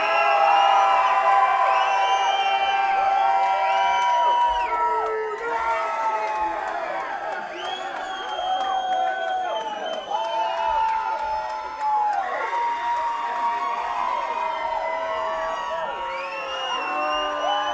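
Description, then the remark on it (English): A large concert crowd screams and cheers continuously for the performer to play a song, a dense wall of high-pitched shrieks and whoops that stays loud for the whole stretch, with no single voice standing out. “You're gonna have to scream a lot louder than that if you want me to play this fucking song.”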